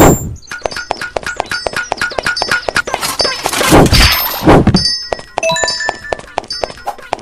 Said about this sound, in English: Now, personally, I don't like the hammer sound. It kind of makes my recording clip a little bit. Could be that I have the volume up too high.